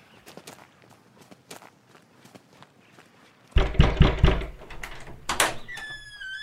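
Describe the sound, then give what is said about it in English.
Soft footsteps approach, then a few loud knocks on a door land in quick succession, followed by a brief rising chime-like tone. No one speaks. “Follow me and I'll knock on the door.”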